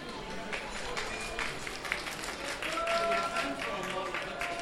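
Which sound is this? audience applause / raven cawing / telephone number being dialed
audience applause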